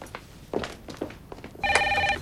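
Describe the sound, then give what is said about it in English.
In a scene from an Austin Powers film, a receptionist's telephone starts ringing near the end, a bright, steady electronic trill that holds loudly, after a few soft thumps and footstep-like knocks. “As the receptionist answers the phone”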